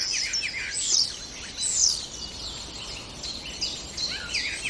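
A starling sings a busy, varied stream of whistles, rattles and squeaky chirps, moderately loud, with no voices present.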